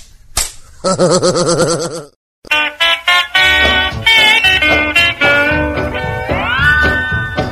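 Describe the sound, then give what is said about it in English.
A quick series of sharp, loud face slaps cracks out one after another, percussive, mixed in with sustained wavering vocal-like tones and a brief pause early on. “Slap her down again, Pa, slap her down again. Take that, and that, and that.”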